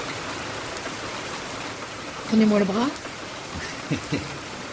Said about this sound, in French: Oh, la pluie quand on se fait mouiller, ben pardon. Ça se peut que j'aime la pluie, mais quand je me fais mouiller, comme ça, je ne produis pas.